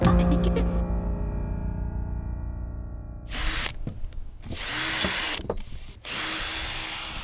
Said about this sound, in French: Atelier bricolage, perceuse